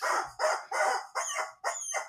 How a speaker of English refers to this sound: Oh, I won't even begin to tell you what that Rubber Chicken just said about you, Greg. He is angry. He is pissed. He is one hell-bent Rubber Chicken.